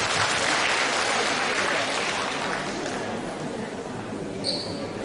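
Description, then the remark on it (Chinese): An audience applauds steadily for about five seconds to thank Lu Junhong, a dense wash of many hands clapping at once that holds loud and eases slightly toward the end, with no voices over it. “让我们再次用掌声感谢卢军宏台长为我们看图腾。”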